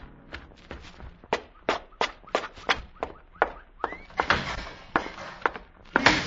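Quick, steady footsteps approach, about a dozen sharp strides, followed by a loud rush of door movement and a heavy bang as a door slams nearby.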